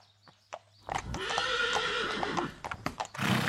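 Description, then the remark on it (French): A horse lets out a loud, drawn-out whinny with quavering harmonics, framed by a few sharp hoof clops before and after, clear with no talking. “Une semaine de route à cheval fut nécessaire pour rejoindre le lieu du rendez-vous.”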